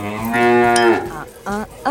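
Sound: cow mooing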